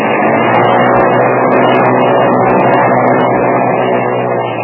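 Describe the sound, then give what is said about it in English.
A boat engine roars loudly and continuously, a dense rumbling drone that holds a steady, heavy level throughout with no voices over it. “Well, she revs up okay,”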